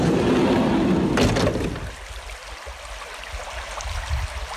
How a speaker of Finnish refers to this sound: Mutta täällä ollaan Suomen Lapissa, Ounasjoen rannalla. Koski kuohuaa tuossa. Ei kuulu ihan tänne saakka tuo kuohunta, mutta kuohuaa se silti.